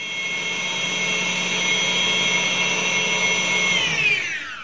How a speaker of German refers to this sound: Sehr großer und sehr schneller Mixer. Genau.